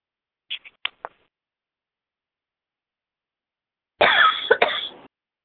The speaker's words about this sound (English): I got the hiccups. Sorry.